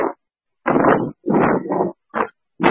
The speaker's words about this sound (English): Alright, yeah, you're very windy.